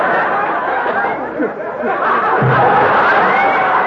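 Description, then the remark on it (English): A studio audience reacts with a steady, loud wash of applause mixed with crowd murmur and scattered laughter, sustained evenly for a few seconds with no single voice standing out. “Did you hear that applause just then?”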